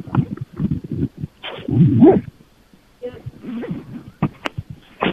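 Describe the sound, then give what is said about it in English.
A zipper is pulled amid muffled rustling and handling noises, coming in uneven bursts of scraping texture with short sharp clicks toward the end, no voices present. “I just heard a zipper.”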